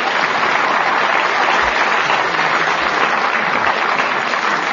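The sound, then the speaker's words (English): An audience applauds two quiz teams at the end of a round, a dense, even wash of many hands clapping at once, sustained at a constant loudness with no voices standing out. “And the reason that I asked for that unsolicited applause is that they've both drawn level.”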